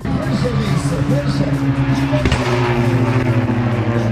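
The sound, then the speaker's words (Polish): Race car engines drone steadily at the Tor Poznań circuit in Poland during a round of the Polish car racing championship, in fairly changeable weather: a loud sustained mechanical hum with a brief sharp burst partway through, set against a faint background murmur. “A my w audycji w Sportowym Rytmie pozostajemy przy sportach motorowych, ale przenosimy się na Tor Poznań, gdzie w ten weekend odbyła się kolejna runda wyścigowych samochodowych Mistrzostw Polski.”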